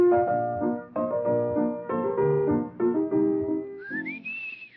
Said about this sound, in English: I didn't sing it. I whistled it. That's Tales of Vienna Woods. Yes. By? Johann Strauss.